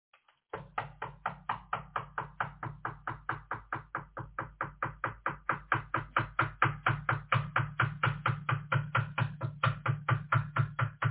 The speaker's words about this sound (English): Never mind the fact that there's a bell. No. Some things you gotta knock for. That's the warning shot.